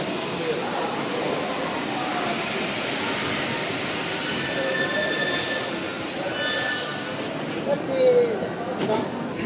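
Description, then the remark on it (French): A Paris metro train pulls in with a steady rumble, its wheels letting out shrill, sustained squeals that swell in the middle and again near the end, with faint voices in the background. “Et j'attends ma rame.”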